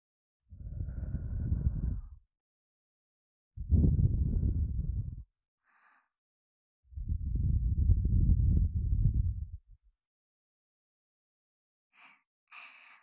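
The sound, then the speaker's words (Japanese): Three long, soft breaths blown into the ear, each a steady warm whoosh lasting about two seconds with pauses between, followed by a couple of faint, brief crackly rustles. “お耳をふうふう、温かな吐息、いかがですか？”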